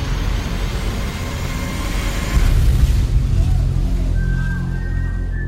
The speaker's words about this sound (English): Whoa, he's dead. I hear the cannon shot. He's dead.